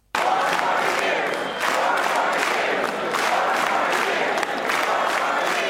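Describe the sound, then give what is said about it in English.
A large crowd chants in unison as the president makes his entrance down the aisle, a loud, dense roar of many voices pulsing in a steady repeated rhythm, with bursts of cheering mixed in and no single speaker standing out. “And as the president made his way, the crowd chanted.”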